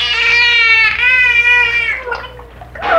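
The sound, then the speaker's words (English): A marine mammal mimics a word, a person's name, through its blowhole, rolling over almost into the water to muffle the sound: two long, nasal, buzzy tones rich in overtones, followed by breathy, watery sputters and a brief rising squeal. “He would eventually roll over almost into the water with the blowhole to muffle the...”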